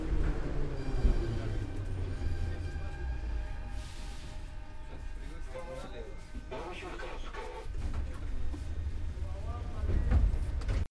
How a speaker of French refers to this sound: Un trajet en métro.